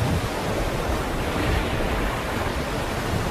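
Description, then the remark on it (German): A loud, steady roar of rough waves churning on open water, the waves growing stronger and stronger, dense and continuous throughout with no pauses and no voices. “Die Wolken verfinsterten sich und die Wellen auf dem Wasser begannen langsam immer stärker und stärker zu werden.”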